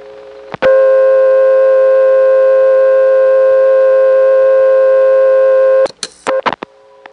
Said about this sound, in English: Another old-fashioned dial tone, and this one sounded different from the camp office. Let's see what happens when I dial a 1 from this payphone.